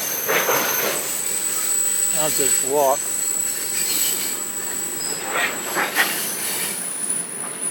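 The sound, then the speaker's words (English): A train rolls past with a sustained, high-pitched squeal of wheels on the rails over a steady rumble, while a man out running briefly speaks. “I guess I'll turn around and I might get back about the time the train's finished.”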